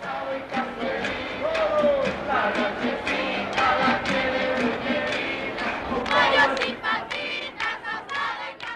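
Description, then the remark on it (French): A large crowd of President Allende's supporters roars and shouts together in dense, overlapping voices, with rhythmic bursts suggesting chanting, sustained and fairly loud throughout. “Cette foule, c'est la force du président Allende.”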